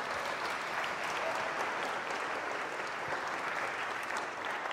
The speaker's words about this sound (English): Right. Give them a round of applause, everyone.